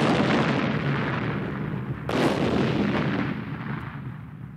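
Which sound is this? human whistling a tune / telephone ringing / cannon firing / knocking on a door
cannon firing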